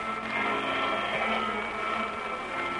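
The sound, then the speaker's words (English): A vacuum cleaner runs steadily during household chores, a loud, continuous motor whine and airy roar holding at an even level throughout with no pauses or voices. “Run the vacuum.”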